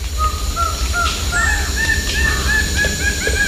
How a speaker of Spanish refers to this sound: Bueno, usted me mandó, aquí fue un concierto, bandada mixta y todo de hormigueros. Sí, pues este grupito tiene una característica, y es esta, que arma una bandada mixta o un parche de varias especies diferentes para irse a buscar alimento.